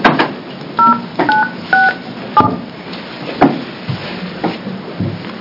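A quick run of about five telephone keypad beeps, crisp dual-tone presses in steady succession, with a few handling clicks and thumps around them and no one talking, as a business owner is called by phone during a state Senate committee hearing.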